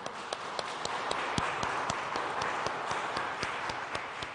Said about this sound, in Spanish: y un fuerte aplauso a nuestra Madre del Cielo.